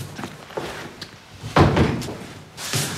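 A few soft clicks and small handling knocks, then the glass-paned front entrance door of a villa, its alarm disarmed by a button press, swings open with a broad rushing thud, followed by another dull bump near the end. No one speaks.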